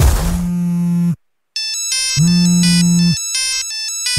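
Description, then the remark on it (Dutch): A telephone rings on an outgoing call from a Studio Brussel radio presenter to a woman joining the show: two long electronic ring bursts with a steady low tone and bright harmonic layers, separated by a brief silence, loud with no voices. “En ik bel zo meteen nog een vrouw die mee komt doen.”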